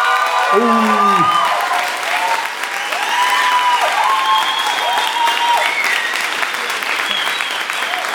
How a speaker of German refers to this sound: Ihr seid jetzt gefragt, jetzt noch, gebt noch mal alles, Kreuzberg. Nur noch zweimal. Euer Applaus für die Industriearchitektur.